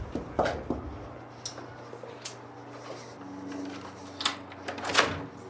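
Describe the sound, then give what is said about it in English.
A 48 Hours (CBS News) crew knocks on a woman's front door: a few sharp knocks and clatters at irregular intervals over a steady low mechanical hum, with a louder cluster near the end and no one speaking. “But that's something she didn't want to share with us when 48 Hours knocked on her door.”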